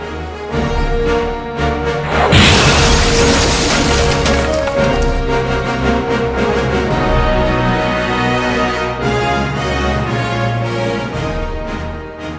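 A spaceship cabin smashes into the ground: a sudden, loud crash bursts into a heavy explosion that roars and crackles for a couple of seconds, set against a continuous swell of dramatic music. No one speaks.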